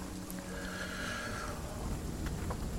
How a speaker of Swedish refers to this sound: Och så börjar åskan. Först är det långt borta, och ju mer ni går desto närmare kommer åskan.